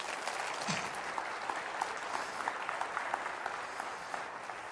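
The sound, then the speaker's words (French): Steady applause from a church audience in Longueuil, applauding the vision and heart of God, a dense crackle of many hands clapping at an even, moderate level for several seconds, with no voices standing out. “J'aimerais que vous applaudissiez la vision et le cœur de Dieu.”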